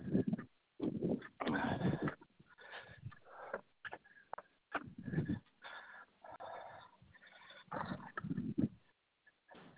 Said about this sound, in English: My dog's got out.